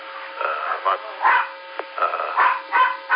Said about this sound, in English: My dog Mark playing with his toy in the background.